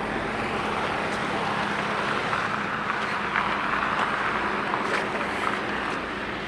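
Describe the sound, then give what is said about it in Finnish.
A steady, dense roar of city car traffic driving back and forth, with a low rumble and brief swells as vehicles pass, continuous throughout without any voices. “Pakko oppia virkistäytymään sielläkin, missä autot jyrää edes takaisin.”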